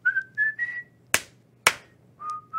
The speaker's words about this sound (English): That's some fantastic whistling you guys have.